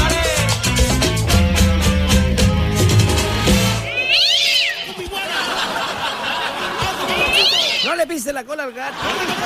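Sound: cat yowling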